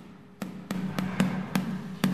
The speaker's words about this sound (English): So, with this hammer, we make the sound to hear if the holes in the cheese are big enough.